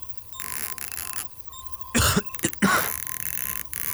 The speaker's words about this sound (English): Is that cough persistent?